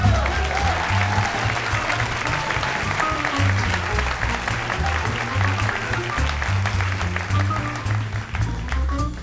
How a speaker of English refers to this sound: Ladies and gentlemen, how about a nice round of applause for … on the trumpet?